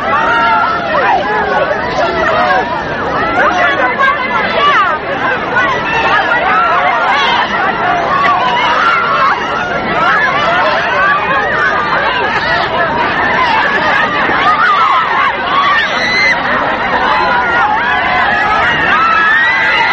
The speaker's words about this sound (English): This is the crowd as they shake hands with President Kennedy. He's making his way through the crowd.